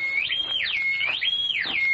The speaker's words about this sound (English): As Ben drew near the house, a whistle broke the stillness of the night.